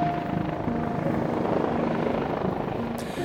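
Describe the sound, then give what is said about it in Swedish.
A helicopter drones steadily throughout, a dense, loud rotor and engine roar with steady humming tones, heard from inside the aircraft on a flight out to the island of Utö, Finland, on a raw, damp, windy day, with no voices. “Jag flög alltså ut dit med honom i hans helikopter för att bevaka händelsen för svenska Yles räkning.”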